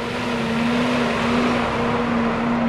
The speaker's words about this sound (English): A feed truck rolls by, dumping feed into the bunks at the Van Housen feedlot in Nebraska. They mix 22 loads a day, nearly 200 tons of feed, and it's what's in that feed that gives Nebraska an edge.